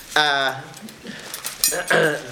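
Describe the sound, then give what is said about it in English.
Metallic clinking of a collected pile of silverware being handled by a man who wants to value it for sale, a few bright clatters clustered near the middle, with his voice sounding briefly before and after. “articles here are is silverware I happen to come onto, and before just getting rid of them, I have a whole bunch of it.”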